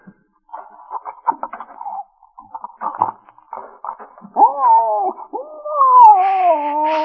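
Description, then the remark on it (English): A dog whimpers while eating a chunk of steak. Short snuffling, chewing noises come first, then drawn-out, high, wavering whines rise and bend, fairly loud. “I just hope when he eats this chunk of steak, he won't start in me.”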